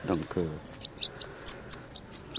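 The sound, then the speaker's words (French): Caged songbirds (goldfinches, canaries and canary-goldfinch hybrids) chirp in a quick, steady series of about a dozen bright, high tweets, clear, with a brief murmur of a human voice at the start. “Tandis que là, on voit que c'est un bec de canari ou d'hybride. Oui, parce que hybride, c'est canari et chardonneret.”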